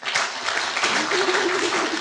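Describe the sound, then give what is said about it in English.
A studio audience claps to vote on whether a point should go to Sheila Hancock, a dense, even wash of many hands with no pauses, holding at a constant loudness throughout. “Clap if you think so.”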